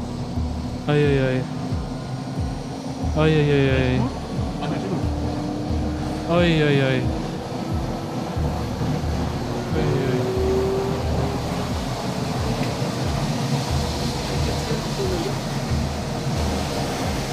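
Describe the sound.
A steady, loud airplane engine drone fills the cabin of a plane that has just been switched on and is getting going, a constant low hum and rising whine, while a person briefly exclaims a few times over it.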